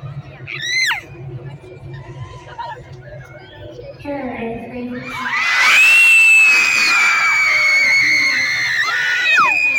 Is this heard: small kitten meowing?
no